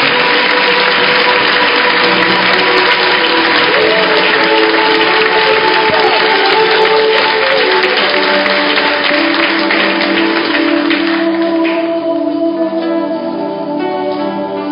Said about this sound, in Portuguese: Uma salva de palmas ao Senhor.